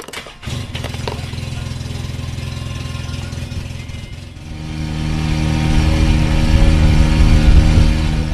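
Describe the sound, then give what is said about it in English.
The small engine of the Turtle Mobile, a vehicle like a cross between a dune buggy and a golf cart used to zip between sand dunes along an Alabama beach, starts up after a brief clatter and hums steadily at low pitch, then grows louder and rougher around the midpoint as it picks up speed and keeps droning. “The Turtle Mobile looks like a cross between a dune buggy and a golf cart.”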